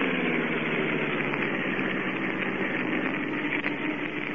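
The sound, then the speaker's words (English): A car engine runs with a steady, rumbling drone and a slight vibration as the car swings off the road and drives toward the shore by moonlight with its lights off, holding an even loudness throughout with no voices present. “We'll swing off the road and drive toward the shore.”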